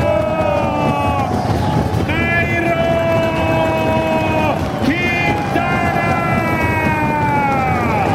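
A noisy crowd of fans roars steadily at the finish of stage 7 of the Tour de Suisse in Arosa, Switzerland, as Colombian rider Nairo Quintana arrives, while loud, sustained horn blasts blare over it, rising and falling in a few long, wavering tones that pause briefly and start again.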